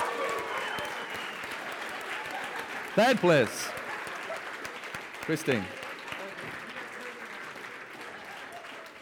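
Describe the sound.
Sustained audience applause at the Ultimate CEO Competition 2019, a dense steady clatter of many hands clapping throughout, while a man's voice briefly announces the third-place winner over it.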